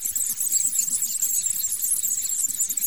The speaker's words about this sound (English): 10 mice a squeaking.